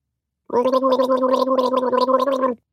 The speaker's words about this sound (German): … steht auf ihrem Hocker vor dem Waschbecken und gurgelt nach dem Zähneputzen.